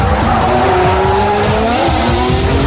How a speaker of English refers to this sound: Now we only have 5 complete power units. Shall we give the first engine a tickle? Heck yeah!